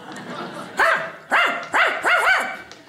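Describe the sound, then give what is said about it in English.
A voice imitates a dog barking, mimicking a TV dog that could talk to humans: four loud, yelping barks that rise and fall in pitch, the last two coming in quick succession, with no other talking. “Like we had a show where a dog could talk to humans.”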